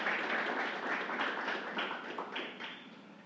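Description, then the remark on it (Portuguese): A crowd applauds steadily, dense overlapping hand claps forming a continuous wash of noise that holds at a fairly even level throughout, with no voices standing out; warm applause for a man receiving a tribute. “Pedimos a calorosa salva de palmas ao excelentíssimo senhor Rodrigo Almeida Rodrigues.”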